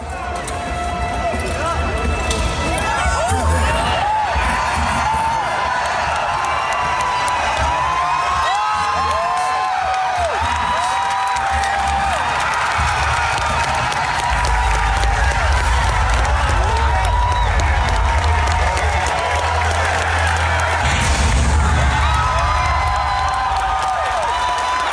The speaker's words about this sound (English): Professionals cheering like school children. I didn't really see what the weapons were. All I saw was a remake. I was like, okay, lots of screaming and remake. Lots of screaming from games industry professionals who were there to watch